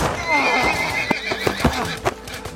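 A horse whinnies loudly, its shrill neigh wavering for about a second, followed by scattered hoof clops and thuds on hard ground.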